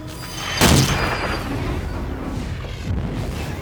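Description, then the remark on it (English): A single heavy artillery blast bursts out with a sharp, wide crack, then trails off into a long, low rumbling roar that lingers for several seconds. No one speaks. “Then why don't we knock on the door? Very good, sir. Artillery!”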